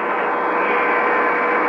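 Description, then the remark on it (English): A large truck used for clearing away rubble at a bombed Marine barracks pulls past. Its engine drones steadily, a loud, even rumbling that holds without letting up for the whole moment, with no voices over it. “A large truck pulling past me now, using it for clearing away rubble.”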